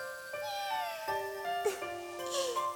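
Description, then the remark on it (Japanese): A cat meows three or four times in quick succession outdoors in cold weather as it grows dark, thin drawn-out cries that bend up and down in pitch, fairly soft, with no one talking. “あの猫、 おいで。”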